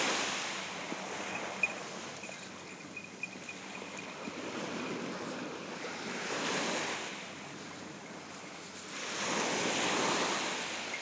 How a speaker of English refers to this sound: Yes, it's beautiful sunshine, we're walking on sand. You're right next to the sea, as you can hear. It's on my right.